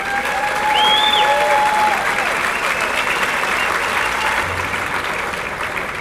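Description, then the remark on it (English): Sustained applause from a large audience for the First Lady of Missouri as she is introduced, dense and steady clapping with scattered whoops and cheers rising above it, holding strong for several seconds. “You know, the trouble is when you have a real popular First Lady, she gets more applause than the governor does.”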